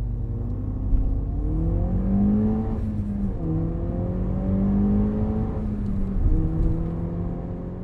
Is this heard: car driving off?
yes